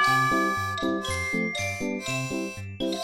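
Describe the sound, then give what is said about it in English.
A bright bell chime plays a quick little melody of about a dozen ringing notes, clear and close, with overlapping tones lingering. No voices are heard. “Listen again and repeat the words after the bell.”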